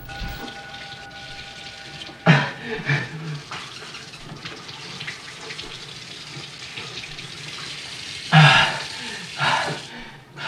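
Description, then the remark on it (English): Water runs steadily from a kitchen tap into a sink while a man drinks with his mouth under the flow, a continuous splashing hiss broken by a few louder gulping or splattering bursts as the flow is disturbed. “He lurches towards the sink, turns on the tap, and puts his mouth under the flow.”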